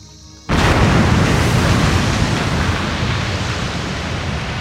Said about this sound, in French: Les anges ayant des ailes, et le barbare échappant à l'explosion par on ne sait quel miracle, seul le rôdeur était resté.